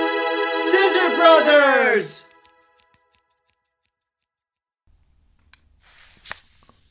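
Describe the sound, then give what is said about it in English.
A drawn-out vocal sound comes first, then after a quiet gap a sharp pop of a Red Bull energy drink can tab snapping open, followed by a short burst of fizzing hiss as it fizzes over. “I don't know why that was so fizzy.”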